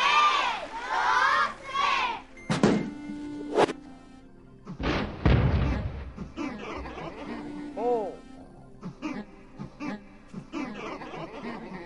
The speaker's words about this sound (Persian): موش کور درسته. تشویقشون کنیم و بلند بشماریم.